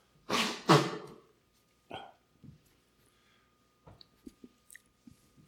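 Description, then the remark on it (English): Two loud, breathy honks of a nose being blown in quick succession, followed by a few soft sniffs and small scattered clicks and rustles. No one speaks. “Sorry, I've got to run, keep blowing my nose.”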